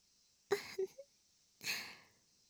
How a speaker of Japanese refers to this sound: 腕を回して、はーい、背中をすりすり。旦那様がよく眠れますように。